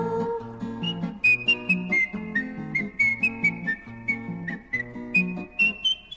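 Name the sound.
whistling through a hole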